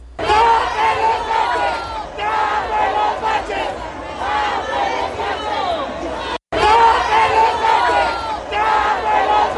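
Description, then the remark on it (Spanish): A large crowd shouts and chatters together in a loud, continuous roar of many overlapping voices at the Grito celebration, with a brief cut of silence near the end before the clamor resumes. “A ver, vamos a ver qué fue lo que gritó también la gente ahí en el grito, porque no nomás gritó el presidente y los gobernadores, también gritó la población.”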